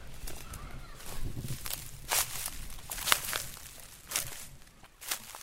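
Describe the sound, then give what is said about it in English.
Footsteps crunch through dry sugarcane in the Dominican Republic, a series of brittle, rustling crackles landing about once a second, each step a sharp burst of dry leaves and stalks with no talking. “Expect a bit of crunching as I move through.”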